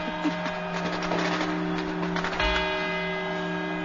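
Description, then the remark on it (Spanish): Clock tower bells chime the four quarters ahead of the hour strikes, with a few resonant strikes whose tones ring on and overlap, over a low crowd murmur. “Estos son los cuatro cuartos. Los cuatro cuartos sonando ya las campanadas.”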